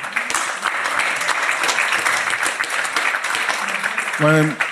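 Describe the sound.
A crowd applauds steadily, a dense wash of many hands clapping at the end of a night of performances, with a brief voice cutting in near the end as the clapping continues.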